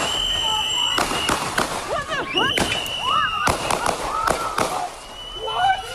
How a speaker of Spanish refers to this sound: en las calles de la ciudad de Minneapolis gasearon en la cara a un ciudadano que trataba de proteger a una mujer, lo inmovilizaron entre varios y lo mataron de varios tiros.